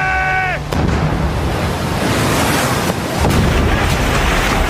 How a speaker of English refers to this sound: There was hardly a breath of wind. Most of the ships weren't moving at all. But there was still the mayhem of battle, cannons and muskets being fired at close range. Fire!